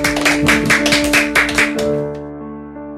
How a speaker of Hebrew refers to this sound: המתבודד הזה מוכן, תו לו מחיאות כפיים!